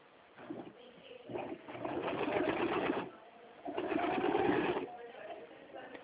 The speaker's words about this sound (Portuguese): Tá trabalhando com máquina de costura, né? É.